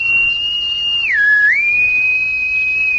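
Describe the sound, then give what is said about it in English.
A person whistles a sustained signal call, one long clear note that dips lower midway, then rises and holds steady to the end. It is loud, with no talking. “Why do you whistle that way?”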